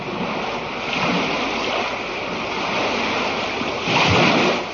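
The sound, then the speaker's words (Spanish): Steady roar of sea surf with a continuous wash of foam, then a louder wave surges and breaks near the end. Some wind rumble underneath, no voices. “Durante las vacaciones de verano, aunque no solo en verano, solemos visitar la playa y entonces nos encontramos con una morskavlna, lo que quiere decir ola de mar en español.”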